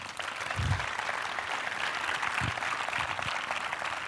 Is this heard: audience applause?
yes